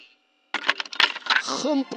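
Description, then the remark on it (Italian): A cassette jams in a tape player during playback after being rewound: after a brief silence, a fast burst of plastic clicks and rattling, then a short warbling squeal from the dragged tape. “Ma aspetti, si è incastrata.”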